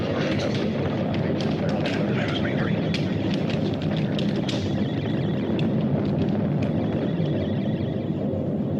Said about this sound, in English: check the distance of the stellar explosion.